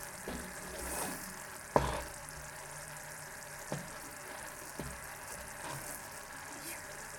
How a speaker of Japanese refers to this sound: もう水ではないですね。水とは呼べない感じになってきましたね。今なんだろう、中華スープくらいの今とろみですね。すごい大きい気泡がブツブツいってきました。